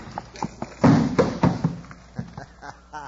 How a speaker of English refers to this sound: We gotta work fast. Drop that trap door in place. Yeah, here it goes.